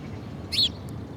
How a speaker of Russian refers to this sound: Типа чириканье воробья. Чирикаешь себе, да чирикаешь.